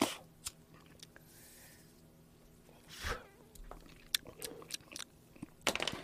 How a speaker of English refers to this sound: Smoking a cigar. Cuban, by the way. Probably fake. Just chewing on it.